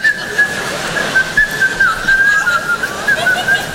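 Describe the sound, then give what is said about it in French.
A person whistles a bright, steady melody, the clear pure tone wavering and gliding between notes without pause over faint background hiss. “T'arrives le matin au bureau en France, tu sifflotes, tu te fais alpaguer.”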